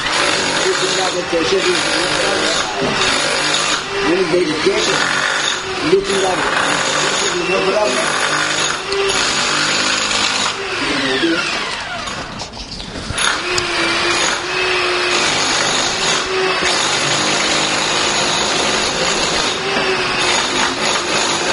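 Loud, continuous power-drill whine, grinding on steadily for about twenty seconds with one brief easing midway before resuming at full strength.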